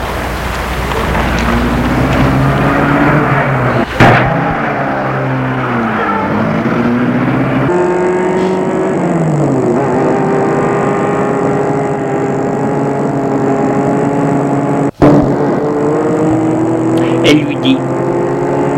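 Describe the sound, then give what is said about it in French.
A car engine is started and runs loud, its pitch rising and falling as it revs and pulls away, with a couple of sharp clunks along the way. “Puis, il met la voiture en route.”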